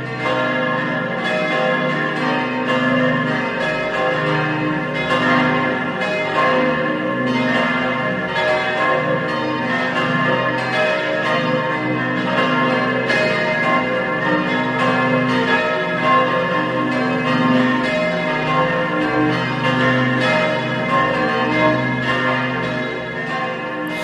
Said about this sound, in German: Es ist 12 Uhr. Sie hören die Glocken der Heiligkreuzkirche in Bludenz in Vorarlberg.